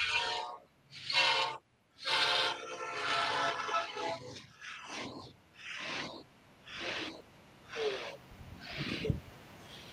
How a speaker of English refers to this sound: As we get another train coming down the tracks.